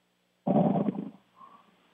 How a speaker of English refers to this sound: Oh, we got a sleeper. We got a sleeper cell. I heard a little snore there, but not quiet.